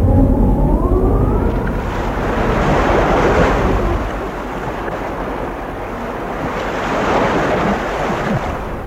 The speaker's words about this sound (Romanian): Ce vijelie, cum se învolbură valurile oceanului.